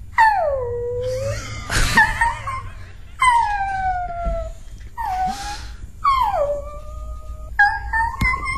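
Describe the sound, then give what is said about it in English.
A person imitates a puppy, letting out a series of high, sliding howls and whiny whimpers, each descending in pitch, with short breathy gaps between them, fairly loud. “…, you must be the puppy. Be the puppy, …. Be the puppy.”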